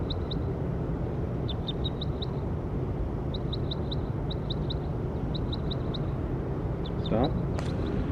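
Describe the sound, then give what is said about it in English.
A bird, logged as bird 5-7 in a field recording, calls in quick clusters of three or four high, thin chirps, repeating every second or so over a steady, heavy low rumble of background noise. “That was bird 5-7.”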